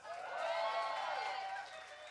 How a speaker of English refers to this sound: And last but not least, can we give a round of applause to you lot for coming out on a Sunday, knowing that you're going to call in sick tomorrow.